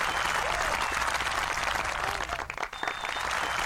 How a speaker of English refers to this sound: It's raining applause. Oh. It is. They're going nuts for you.